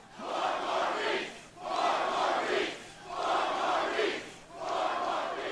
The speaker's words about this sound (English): I think the right chant ought to be for them, 4 more weeks. 4 more weeks, all right? Soon enough, the crowd took up the cry.